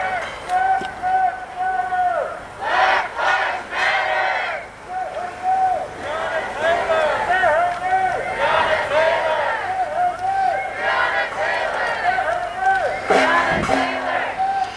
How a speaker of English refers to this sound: I think they're shouting the names of people who've been killed. Breonna Taylor.